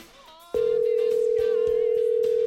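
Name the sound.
outgoing phone call ringing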